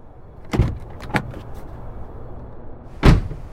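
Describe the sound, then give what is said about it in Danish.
A car door unlatches and thunks a few times over a low idling rumble as the car stops and a person is taken out of it, with one last solid clunk near the end; no one speaks. “Og stopper bilen. Han tager hende ud af bilen.”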